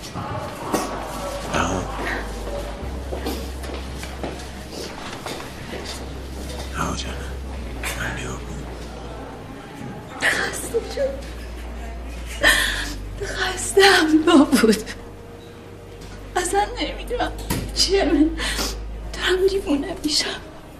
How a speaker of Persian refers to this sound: باشه دروغ نگفتی، گریه نکن.